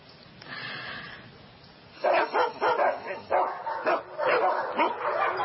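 A dog barks in a rapid, excited series of yips and woofs, preceded by a couple of seconds of quieter snuffling and faint whining.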